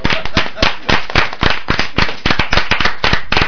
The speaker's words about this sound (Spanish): Y de aquí pedí un aplauso para él, que se lo merece.